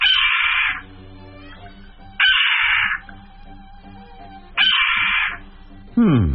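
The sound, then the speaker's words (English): A Steller's jay mimics a red-tailed hawk's scream: loud, harsh, raspy screeches repeated about four times at steady intervals, with quieter background sounds in between. “Here's a stellar interpretation of a red-tailed hawk.”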